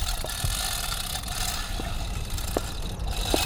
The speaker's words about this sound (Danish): De arbejdende hænder, de løfter langsomt gravpladen. Det er en raslende kæden, der løfter selveste graven, vi kan høre.